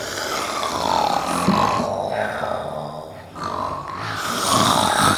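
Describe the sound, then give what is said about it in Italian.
Loud, rasping snoring of the wolf in a reading of Little Red Riding Hood, asleep on a full stomach after eating the grandmother: two long drawn-out snores, each a rough, rumbling breath rising and falling, with a brief pause between them. “Con la pancia piena si addormentò come un sasso e iniziò a russare forte.”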